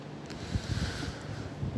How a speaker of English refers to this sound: I hope you can hear this because it's still a bit windy out here. I found a little alcove here just out the wind in the park.